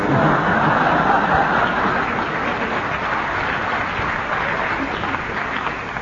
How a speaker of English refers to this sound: Thank you for that round of applause.